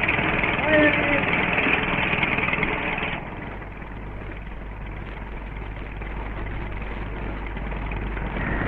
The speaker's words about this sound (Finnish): Vintturi kelaa vaijerin irti. Miehet tarttuvat sinkin irroitettuihin päihin ja vetävät ne taas tukkikasan luo.